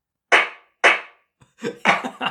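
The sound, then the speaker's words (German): Two sharp, loud claps ring out with short decaying tails, followed by a denser, overlapping burst of clapping, like a brief canned applause effect, played by a Google smart speaker on voice command. No one speaks. “Genau dieser Applaus, den hätte ich dir jetzt auch gegeben.”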